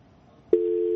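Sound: telephone busy tone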